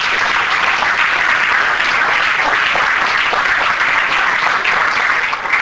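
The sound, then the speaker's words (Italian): Sustained, dense applause from a large audience for the gold medalist and world champion, a steady loud wash of many hands clapping without pause for several seconds, with no voices standing out. “Prima è medaglia d'oro, campionessa del mondo, Tatiana, il terzo Italia, vi prego, rinnoviamo un applauso.”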